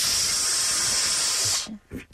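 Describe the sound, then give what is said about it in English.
A person imitates the slow, steady hissing exhale some people make at the gym, a loud continuous breathy hiss lasting about a second and a half before cutting off, followed by faint voice sounds. “They're like doing this slow balloon release thing.”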